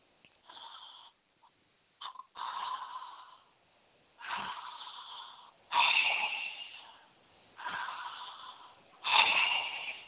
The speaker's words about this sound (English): every time you breathe, when you go to the doctor and the doctor says, I want you to take a deep breath and deep normally, to breathe normally, this is what happens, and this is what you're hearing.